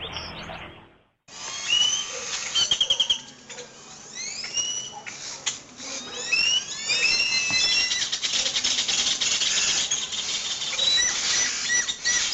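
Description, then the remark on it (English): A dense chorus of many birds chirping and singing at once in a tree around sunset in the northern coffee region of San Ramon, Nicaragua, overlapping calls and trills forming a busy, continuous wall of sound, with no voices. “Those are birds singing in a tree around sunset in the northern coffee region of San Ramon, Nicaragua.”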